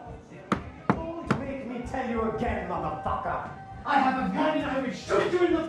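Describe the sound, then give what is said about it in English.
Three sharp, evenly spaced knocks rap on an apartment door in quick succession, then a person begins talking as the knocking stops. “I'm sorry to knock on your door like this, but you're the only person I”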